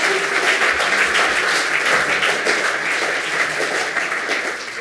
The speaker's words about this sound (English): Actually, can we have a huge round of applause for the audio angels who have been scrambling to try to make this audio work? Huge round of applause for them.